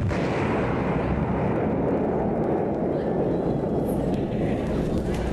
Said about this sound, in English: And explosions.